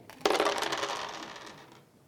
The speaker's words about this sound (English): Rolls the dice.